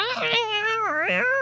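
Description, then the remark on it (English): A cat yowls in a long, wavering cry that rises and dips in pitch, clear and fairly loud, with no talking over it. “I don't know, but there's a cat yelling in the background.”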